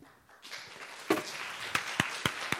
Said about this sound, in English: Man, you got like 3 claps. Good night. Wish I got that many.